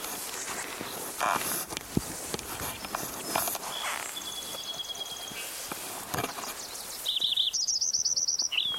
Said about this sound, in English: Lincoln Sparrow number one.